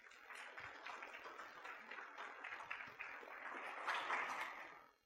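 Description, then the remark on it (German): An audience claps steadily for about five seconds to welcome two presenters from Cologne, a dense crackle of many hands that swells slightly near the end before quickly dying away. No one speaks. “Also erstmal Applaus für die zwei.”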